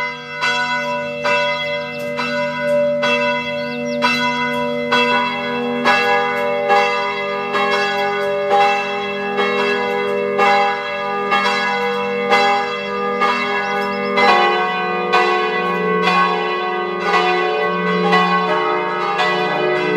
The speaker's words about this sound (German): Es ist 12 Uhr. Sie hören die Glocken der Pfarrkirche Frauenthal in der Weststeiermark.